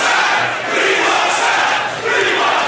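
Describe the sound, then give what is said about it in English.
A loud crowd of New York Jets fans chants in unison at the football draft about 30 years ago, right before the Jets' ninth pick in the first round, voices swelling and dipping in a rhythmic, roaring pattern with no clear individual words, sustained throughout. “This is Jets fans about 30 years ago.”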